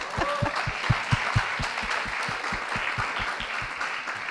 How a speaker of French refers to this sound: Merci infiniment. Et on peut les applaudir parce que...